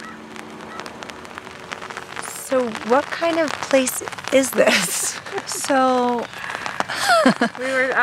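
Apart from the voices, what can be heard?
rain falling outdoors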